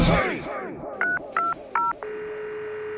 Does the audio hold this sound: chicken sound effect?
no